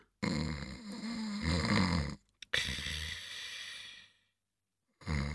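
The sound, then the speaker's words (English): Loud, rasping snores in long drawn-out breaths, two full snores separated by a brief pause and a short gasp, with a third starting at the end; no talking. “I'm sleeping, Marie. Good night.”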